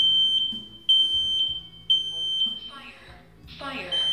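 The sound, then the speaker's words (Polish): A carbon monoxide and fire detector alarm gives a rapid series of shrill, evenly spaced beeps, loud, with a voice coming in over the beeping toward the end. “Powstały takie czujki tlenku węgla, które wykrywają bardzo łatwo w atmosferze tlenek węgla i wstrzymają alarm.”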